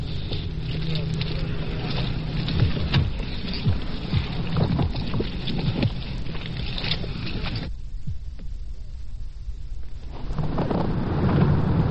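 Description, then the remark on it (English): A steady, dense hiss of heavy rain at night fills the whole clip, with low rumbles of thunder rolling underneath and a brief dip in the downpour before it surges back. “It's been raining heavily tonight.”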